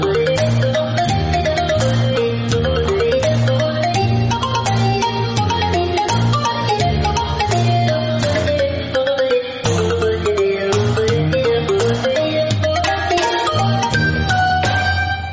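A mobile phone ringtone plays a full, bass-heavy musical melody, loud and steady for about fifteen seconds without stopping, with no voices over it.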